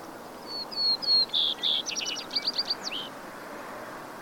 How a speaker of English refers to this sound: an upwelling of music orchestrated primarily by the breeding birds. They sing in the mountains, in the riparian cottonwood and willow forests, throughout the prairies where the western meadowlarks and the vesper sparrows nest.